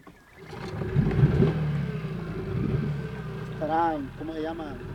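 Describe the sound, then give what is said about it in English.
A small wooden fishermen's motorboat chugs steadily down a narrow estuary waterway in the Gulf of Fonseca with a low, continuous rumble, while brief higher warbling calls rise over it near the end. “As their boat puts down the narrow waterway, blue crabs scuttle along the muddy bank.”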